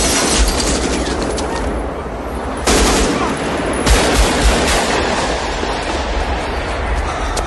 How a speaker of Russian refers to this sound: Конечно, звуки. Ну, когда смотришь это, тут, естественно, звук. Не зря заморачивались со звуком выстрелов.